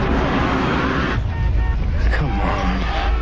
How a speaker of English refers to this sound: In a car, Bookman sits in traffic.